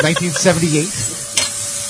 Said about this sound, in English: Any guesses? It's dishwasher.